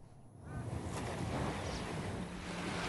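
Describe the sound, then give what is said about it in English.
Gentle waves lap against a seashore at Longboat Key, Florida, at dawn, in a steady, soft wash of water, rising slightly after the first moment, with some breezy wind noise and no voices. “Gentle waves lapping against a seashore, then palm trees in silhouette.”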